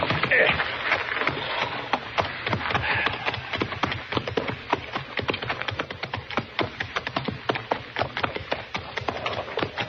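Hooves of approaching horses clip-clop in a quick, uneven patter of sharp knocks that build into a dense rhythm, with a few faint voices mixed in.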